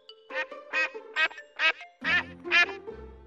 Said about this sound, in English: Call Ducks are one of the smallest ducks in the world. They are originally from the Netherlands.